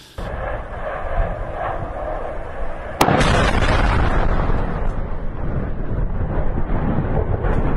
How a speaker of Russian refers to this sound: сообщил, что в районе бывшего донецкого аэропорта был нанесен удар по базе хранения, комплектования и запуска беспилотников «Шахет». Давайте посмотрим, как это было, потому что было действительно зрелищно. Скорее всего, там была вторичная детонация.